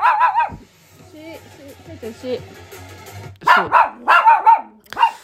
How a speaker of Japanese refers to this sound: 犬が隣にいる。うるさくてごめんなさい。